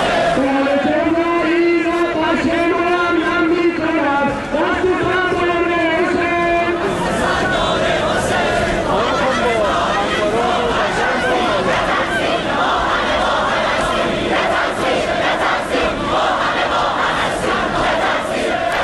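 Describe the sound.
A crowd of students at Shahid Beheshti University chants in loud unison, protesting at a ceremony for the victims of the downed Ukrainian passenger plane. Rhythmic phrases rise and fall for several seconds, then break into a dense, roaring mass of shouting voices that continues steadily.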